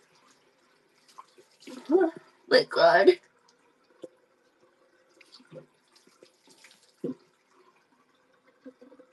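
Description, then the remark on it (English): Cold tap water splashes into a sink in a couple of short bursts as a person washes their face, with a voice exclaiming over it, followed by scattered faint drips and small clatters. “Fuck, the water is so cold.”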